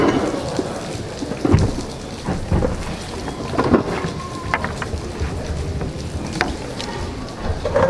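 Steady, dense rain hisses throughout while low thunder rumbles roll in and out, with a few louder swells; no voices can be heard.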